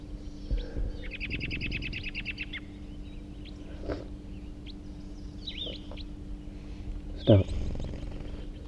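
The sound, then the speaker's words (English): A wild red male bird, type 4, the third wild bird to arrive, calls with a quick, high-pitched trill of rapidly repeated notes, followed by a few scattered short chirps over a steady low hum. “Here comes that third wild bird. And it's a red male.”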